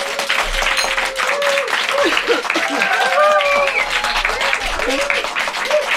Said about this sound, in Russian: Описывая обстановку, мы сидим в одном из самых больших студий Бушхауса, два этажа под землей. У нас сегодня публика, оркестр. Приветствуем группу, и публика заявит о своем присутствии громкими аплодисментами.